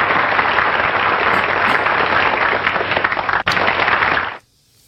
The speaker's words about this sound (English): Where's my applause? There we go.